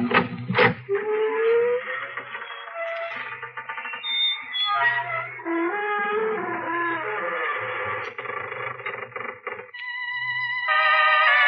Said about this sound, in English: Good evening, friends of the creaking door. This is your host to welcome you back into the Inner Sanctum for another half hour out of this world.